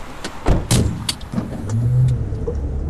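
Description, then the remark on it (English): A car sets off for a drive around Derry, near the border between Northern Ireland and the Republic of Ireland, with a few sharp clicks and thumps early on, then a low engine hum rising steadily as it gets underway. “So let's get in the car with us and have a little bit of a spin.”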